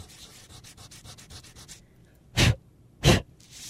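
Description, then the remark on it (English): The eraser on the end of a pencil rubs quickly back and forth on paper, erasing graphite marks of a drawn banana, in soft, rhythmic scratchy strokes, then stops; two louder breathy whooshes follow, with no talking. “What happens when I rub that eraser over my drawing is that the eraser is rubbing those graphite marks right off the paper.”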